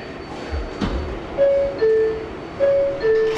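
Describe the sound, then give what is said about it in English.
A subway train at Grand Central Terminal in Manhattan, New York City, in the morning: a brief low rumble, then a two-note descending door chime rings out twice, clear tones over a steady background hum. “That's the sound you could have heard this morning at Grand Central Terminal in Manhattan.”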